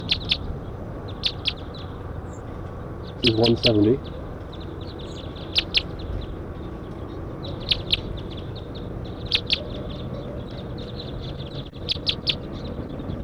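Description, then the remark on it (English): Repeated sharp, high chip calls from five or six wild crossbills in a pine tree above a net ring out in bursts throughout, over a steady outdoor hiss, with a man's voice speaking briefly near the start. “Six wild crossbills in the net, up in the pine tree.”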